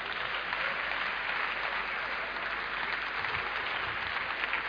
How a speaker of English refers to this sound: I don't know why you are clapping.